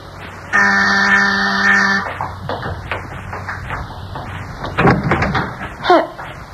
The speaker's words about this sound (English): I wasn't expecting anyone, and when the doorbell rang, I thought he must have come back for something.